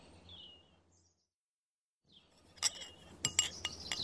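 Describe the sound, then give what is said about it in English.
Dishes at a children's picnic in a garden clink together as they move, a burst of sharp, bright knocks, about half a dozen irregular hits that grow busier toward the end, following a quiet stretch and a faint high chirp. “Look, the dishes are moving.”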